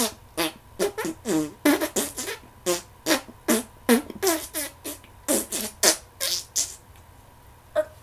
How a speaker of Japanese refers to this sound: うっさいわね、ブリブリ屁かましながら言ってんじゃないわよ。